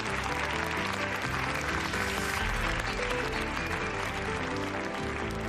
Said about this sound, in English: And again, the crowd cheers.